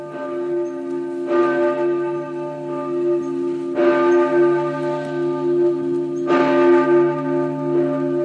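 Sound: large church bell ringing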